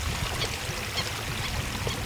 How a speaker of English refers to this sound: We're kind of walking along a permanent levee out here. You ought to hear some water moving in the background here.